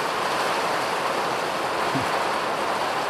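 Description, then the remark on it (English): A hail squall coming off the Atlantic Ocean in Ireland roars steadily, a dense, loud wash of pelting hiss that holds constant for the whole stretch with no voices. “So this is like a proper squall coming off the Atlantic Ocean.”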